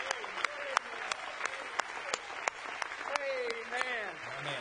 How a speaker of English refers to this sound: They're clapping for horse races. We're clapping because we're one of them. Mereka bertepuk tangan saat lomba perlombaan kuda. Kita menarik bertepuk tangan karena kita salah satu dari mereka.